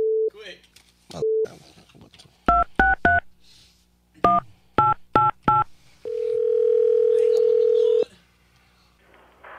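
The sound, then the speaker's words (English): A phone call is hung up by the other party, clicking off with a couple of short tones, then touch-tone keys beep in two quick runs, three then four, followed by a steady droning tone lasting about two seconds. “Just hung right up.”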